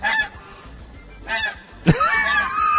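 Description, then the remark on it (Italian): A bird call device imitates a goose, honking several times in short, loud bursts separated by brief pauses, the last call sharper and followed by a drawn-out, wavering honk. No one speaks. “Questo è l'occa.”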